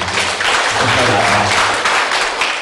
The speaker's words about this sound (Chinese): 好，来掌声鼓励一下。